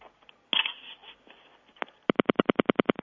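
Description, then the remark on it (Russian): A telephone pulse-dials the digit 9: a quick, evenly spaced train of about ten sharp clicks follows some quieter handling and rustling noises. There is no voice. “Писк, если тоновый, если импульсный, то щелчки. Ну вот так. Нажми сейчас 9 на телефоне.”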